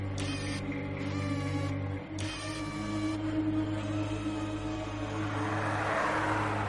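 car pulling up

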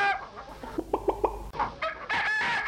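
rooster crowing

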